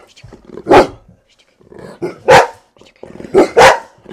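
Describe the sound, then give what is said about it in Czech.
Dogs bark in short, loud bursts in a radio studio in Olomouc, saying goodbye at the end of a visit: a single bark, then another, then a quick double bark, with softer murmuring voices in the gaps between. “Pejskové se loučí.”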